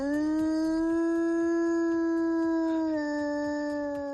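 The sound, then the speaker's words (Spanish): A long, sustained wolf howl holds a steady pitch for about three seconds, then dips slightly lower and carries on, fairly loud and alone with no talking. The wolves are in the Sierra de Madrid. “Dicen que se les oye aullar en las noches de luna llena.”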